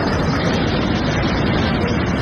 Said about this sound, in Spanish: Esta vecina, por ejemplo, graba cómo la tromba de agua es tan fuerte que empieza a colarse por las puertas de los bajos.